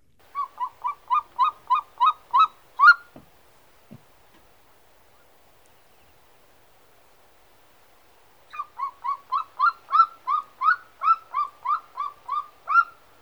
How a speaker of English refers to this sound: Okay, so that's a golden eagle, and as we just learned, that's not really what we have here in New Hampshire.